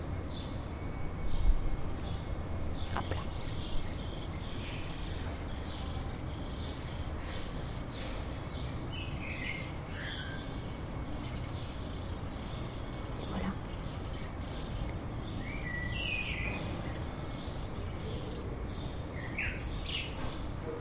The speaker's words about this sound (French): C'est le petit là qui gazouille. Donc il en reste au moins deux.